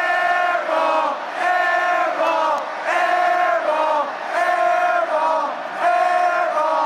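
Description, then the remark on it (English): A student section at the University of Central Florida chants "air-ball" in unison at a basketball game, taunting an opposing shooter, each long, drawn-out two-note call repeated about six times in a steady rhythm, loud and sustained with brief pauses between. “That second clip is what I consider the classic airball chant.”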